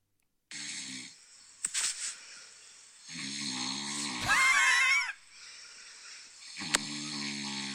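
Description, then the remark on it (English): Loud snoring recorded at night: a few long, rattling breaths with sharp snorts between them and one strained, squealing wheeze in the middle. No one talks. “this is what I have to listen to 6 or 7 times a night, and this is why I wake you up”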